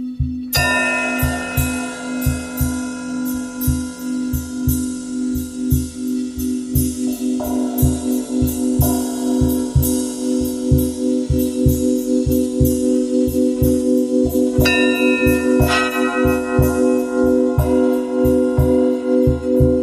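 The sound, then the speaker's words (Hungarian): A large bell rings steadily on its own, with rapid rhythmic strikes over a loud, sustained, humming resonance that swells and lingers throughout. “hiszen itt ez a nagy harang”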